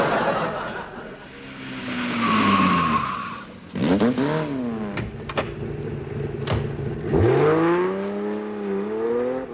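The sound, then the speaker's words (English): A small car engine revs loudly, its pitch rising and falling in several surging bursts, then pulls away with a final climbing whine, with no talking. “Outboard motor on roller skates.”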